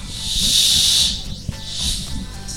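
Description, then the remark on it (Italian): A voice imitates rain with a long, steady hissing breath, fading briefly in the middle before a second shorter hiss, with a faint low murmur underneath. “Allora, qualcuno fa rumore di pioggia.”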